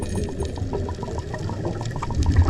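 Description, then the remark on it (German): Muffled underwater bubbling from divers off the coast of Thailand, a steady rush of bubbles rising to the water surface with rhythmic gurgling pulses and a low rumble, fairly loud throughout with no voices. “Blasen wabern an die Wasseroberfläche.”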